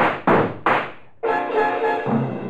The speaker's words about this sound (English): It's almost 8, and now you hear them. Footsteps. Closer. Closer.